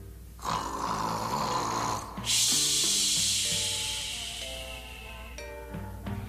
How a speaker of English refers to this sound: Mr. Mustafa snored again. He snored so loudly, the moon dancers tumbled, and the tulips got tied in a knot, and the starfish turned into sharks.